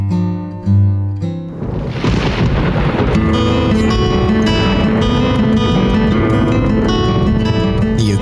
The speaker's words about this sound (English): Storm.